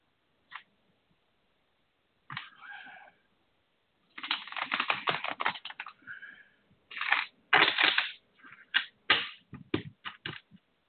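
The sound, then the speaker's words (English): A deck of cards being shuffled: a few brief taps, then a long crackling riffle followed by several shorter, rapid bursts of flapping card sounds, with no talking. “Make sure I get them shuffled good.”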